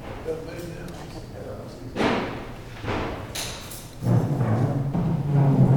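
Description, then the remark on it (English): A heavy door falls off its hinges with a loud thud during a congressional committee meeting, followed by a few clattering knocks and scraping bumps, with people's voices murmuring in the background. “The door fell off.”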